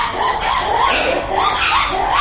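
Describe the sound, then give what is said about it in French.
A dense, steady chorus of birds and monkeys calling over one another at a sloping zoo park, near the monkey area, with rising and falling warbles and squeals that run continuously and fairly loud, with no talking. “On approche maintenant le coin des singes. Donc on peut entendre un peu déjà les bruits.”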